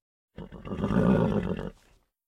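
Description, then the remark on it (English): A zebra calls once, a loud, rough braying whinny lasting over a second, with no other sounds around it. “There were zebras.”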